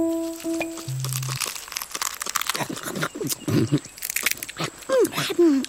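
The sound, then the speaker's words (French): Crunchy chewing and crinkling as a lemur bites through tough leaves and tamarind pods, with irregular snaps and rustles, a short low tone early on and faint squeaky calls near the end. “Le lémurien a stoppé sa course pour manger les feuilles coriaces et les gousses de tamarinier.”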